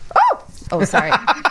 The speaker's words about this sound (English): Sorry. There's a dog licking your foot. There's a dog in studio, and it jumped up, and it just scared me, even though I know the dog's in studio, so I don't know why it scared me, but it just scared me.